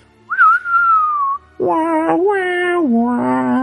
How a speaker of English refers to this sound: cue the whistle from the good, the bad, and the ugly